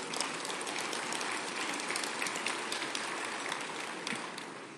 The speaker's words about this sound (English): Yes, let's clap to that.